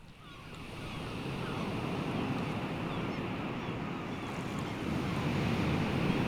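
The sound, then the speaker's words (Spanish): Ocean surf of the northern Chilean sea rolls in a continuous, full-bodied roar, waves washing steadily with a deep rumble and hissy spray, loud throughout, with a hint of wind over the water. “Se alegra el mar norteño con los niños risueños.”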